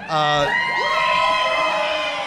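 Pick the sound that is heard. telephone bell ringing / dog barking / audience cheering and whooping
audience cheering and whooping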